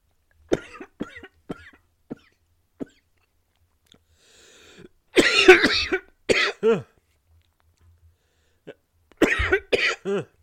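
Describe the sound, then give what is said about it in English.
Harsh coughing in several fits, a side effect of taking potions: a few light, scattered coughs at first, then louder bursts of hacking with rough, voiced ends, separated by short pauses, and no talking. “Apparently those potions have that side effect of a bit of coughing.”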